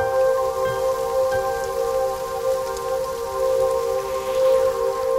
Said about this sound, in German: Zu sehen, wie es regnet.